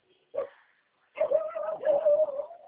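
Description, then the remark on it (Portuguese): A dog gives one short bark, then after a brief pause breaks into a sustained, high, wavering whine. It is moderately loud, with no talking. “Cachorro! Vem aqui!”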